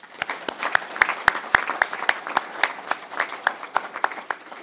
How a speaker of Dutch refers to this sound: Dank voor de fijne samenwerking. Applaus.